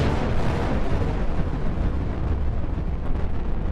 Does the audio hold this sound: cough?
no